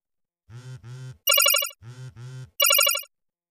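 mobile phone ringtone ringing

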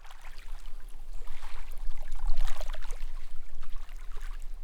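lapping of waves

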